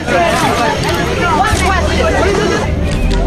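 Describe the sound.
A dense crowd of newspeople chatters all at once around a small car that policemen pushed to get started, many overlapping voices loud, with the car's engine rumbling steadily underneath.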